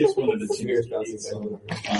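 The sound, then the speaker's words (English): A person growls and roars in a rough, drawn-out voice for about two seconds, doing an impression of a fierce pouncing cat, fairly loud with a brief dip before a final snarl. “Oh, will you do your kitty cat impression again?”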